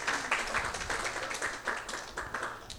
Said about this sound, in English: On behalf of our chapter, welcome everyone to our member appreciation night. A big round of applause for yourselves for coming.